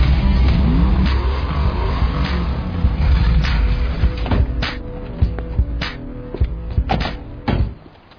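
Two cars roll in with a loud, steady engine rumble that rises and swells as the motors rev, followed by several sharp knocks and clunks near the end before the noise cuts off.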